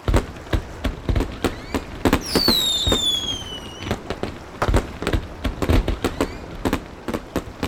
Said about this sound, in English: Sonia and Philippe walked to the River Seine. They stood and watched the fireworks.